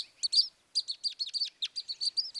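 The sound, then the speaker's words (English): A rapid series of sharp, high chip notes from red crossbills in the top of a ponderosa pine, about a dozen in quick succession after a short pause, clear with no other sounds. “They're the red crossbills. That's a great bird. They're the one who are just making that sound, chip, chip, chip, chip.”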